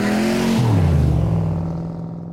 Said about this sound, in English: If you fast forward to really what the soundscapes were, let's say in the 50s, so in the 50s, it was all about muscle cars. It was all about the loudest car you could have, Mustangs, Corvettes that were really, really loud.